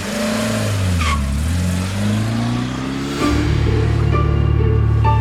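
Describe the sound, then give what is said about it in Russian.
An 18-year-old Lada 'six' with Tambov plates and 250,000 km on it strains loudly to pick up speed after a traffic light turns green, its engine drone climbing and sagging, then jumping to a steadier, harsher pitch after a gear change. “Старенькая «шестерка» с тамбовскими номерами после того, как включился зеленый свет, с трудом начала набирать скорость.”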